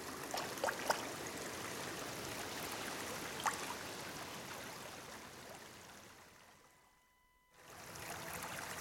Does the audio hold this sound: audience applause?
no